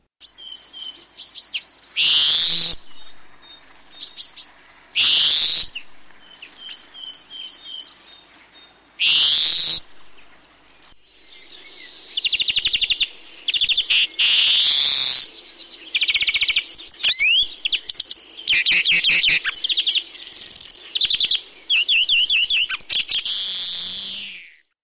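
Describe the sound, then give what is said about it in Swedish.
A yellowish finch, a resident bird with yellow edges at its sides and related to the chaffinch, calls repeatedly: loud, buzzy bursts every few seconds, then a busy stretch of rapid chirps and twittering trills, with no talking. “Och den har ett väldigt speciellt läte som man också hör väldigt tidigt på våren.”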